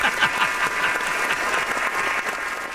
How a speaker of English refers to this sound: Hey, how about a round? Where's the round of applause when we need it?